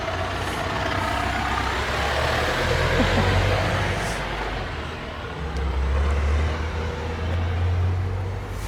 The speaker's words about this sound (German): Da kommt mal gerade ein Lastwagen, wir gehen mal zur Seite.